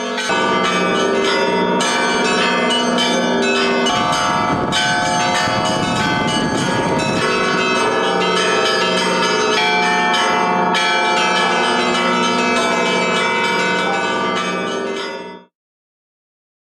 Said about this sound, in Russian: Ну и, конечно, каждый желающий смог поделиться своей радостью с помощью церковных колоколов. По старинной традиции колокольни православных храмов на Светлой Седмице были открыты, и многие воспользовались возможностью ударить во все колокола.